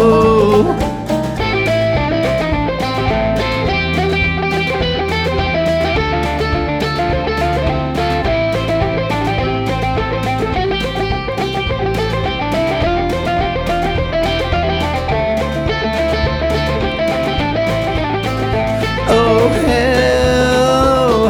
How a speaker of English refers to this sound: Just added Big Muff distortion. Now that banjo plays death metal.